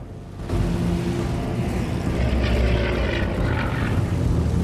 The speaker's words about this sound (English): Farrier's tailing the Heinkorps bomber as it reduces height, flying low over the water.